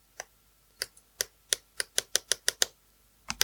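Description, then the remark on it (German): A pen with its tip retracted taps and clicks against a new hard device being tested, about a dozen crisp ticks, slow and uneven at first, then speeding into a quick run before two final taps. No one speaks. “Kannst du das neue Gerät mit dem Stift benutzen? Ich teste es aus. Nimm einen Stift.”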